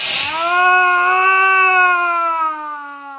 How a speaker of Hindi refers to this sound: ये क्या है शर्मन, ये चीख कैसी?